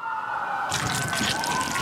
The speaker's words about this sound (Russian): Что? Сирены? У него аллергия на звук сирен.